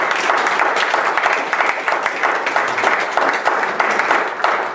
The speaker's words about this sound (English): Well, that's worth some round of applause there. Let me take that.